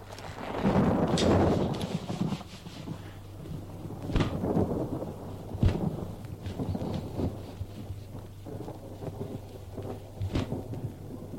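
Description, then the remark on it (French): A thunderstorm in stifling heat rumbles with rolling thunder, a heavy swell of low rumbling early on followed by scattered sharper cracks and a steady background wash, loud, with no voices. “C'était sans doute la chaleur étouffante de l'orage.”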